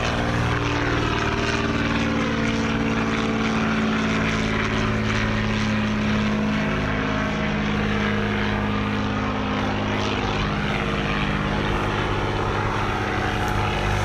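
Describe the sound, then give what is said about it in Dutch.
A vintage propeller aircraft engine drones steadily and loudly, its deep rumbling harmonics and rhythmic throb holding constant with no talking. “Dit geluid is oude luchtvaart, jongens.”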